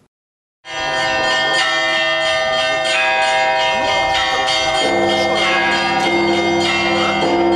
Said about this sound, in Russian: Над древним Херсонесом разносится звон колоколов.